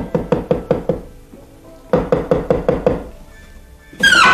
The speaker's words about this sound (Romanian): Pe când se șterge de sudoare, gândind la cine știe ce, aude ciocănituri la oblonul lăsat.